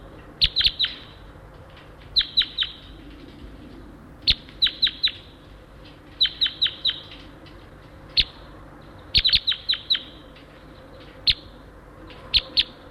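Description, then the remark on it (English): Sharp, high calls of a wild red crossbill some way down a hollow repeat in quick bursts of two to four 'kip' notes, with short pauses between groups, clear above a low steady background rumble. “I hear a wild crossbill down the hollow a ways.”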